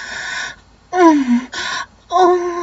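A voice gasps for breath in four short bursts, breathy rasping inhales alternating with strained, voiced cries that slide downward in pitch, fairly loud with brief pauses between.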